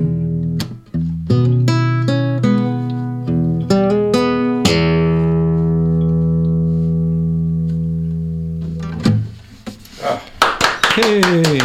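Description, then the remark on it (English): A sung, strummed tune rings out and fades, then a quick burst of sharp hand claps follows, sounding like two people clapping enthusiastically. “You two clap is like a bloody crowd of 1,000.”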